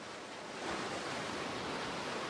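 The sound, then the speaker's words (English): Waves wash steadily against a rocky shoreline in a continuous, hissing rush that swells slightly partway through, moderately loud, with no voices or other sounds. “Waves lap onto a rocky shoreline.”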